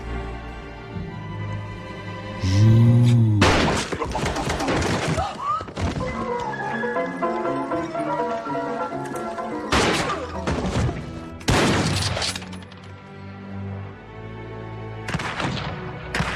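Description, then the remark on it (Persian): Loud bursts of gunfire crack out in several separate volleys during a shootout, some in quick rapid clusters, over a steady dramatic musical score. “مشکل آدم خوبه اینه که نمیتونن درست شلیک کنن.”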